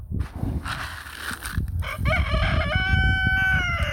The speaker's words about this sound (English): I'm sad to say he killed another rooster. And so I'm down to two roosters now. But Hamas the killer rooster on video attacking me while I'm giving them food. Check this out.